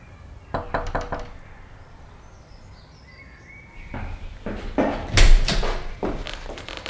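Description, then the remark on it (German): A quick burst of sharp knocks on the wooden door of a small house in a quiet residential area of Pacific Palisades, then after a pause a second, louder round of knocking with some rattling, with faint outdoor ambience and bird chirps behind. “Bob trat durch ein modriges, hölzernes Gartentor und klopfte an die Tür.”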